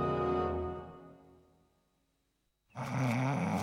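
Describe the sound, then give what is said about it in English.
Homer snores loudly while asleep in the garden: a long, rumbling snore fades out, a second of quiet follows, then another harsh, rattling snore starts abruptly. “Homer's asleep in the garden.”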